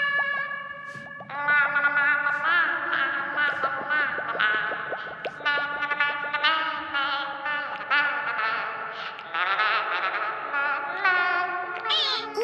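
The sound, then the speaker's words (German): A frog sings underwater after falling into the water, heavily processed with warbly, echoing effects so it sounds submerged; a continuous melodic line with sliding, wavering pitches, fairly loud, no talking. “unter Wasser klingt dein Gesang wunderschön.”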